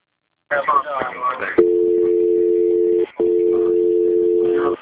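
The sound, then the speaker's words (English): A brief voice at the start, then a telephone ringing as steady electronic tones: two long, even rings with a short pause between them, clear, as if heard through the line. “Ringing.”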